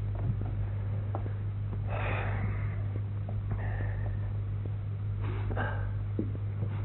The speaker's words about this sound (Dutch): Waarom snuift u? Ik ruik een parfum.